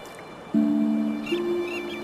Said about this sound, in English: Birds.